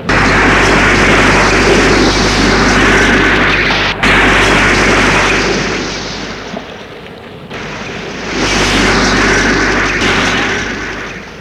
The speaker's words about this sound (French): Que la voiture a explosé.